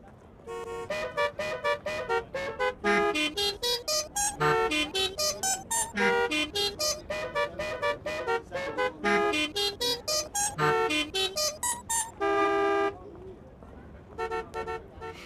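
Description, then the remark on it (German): Car horns honk out a piece of music in quick, rhythmic bursts, short toots and a few longer held blasts, loud, forming a recognizable melody with brief pauses between phrases. “Ruft mich an und sagt mir, welches Musikstück da gerade so wunderschön gehupt wurde.”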